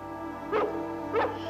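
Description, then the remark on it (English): Two sharp barks from a dog, evenly spaced about half a second apart, heard over a steady low background hum with no talking. “Sometimes at night, I can hear them barking.”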